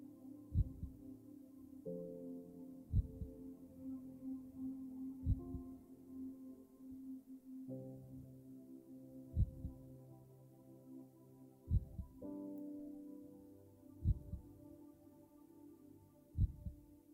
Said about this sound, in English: Focus on your heart, tune in, and listen to your heartbeat.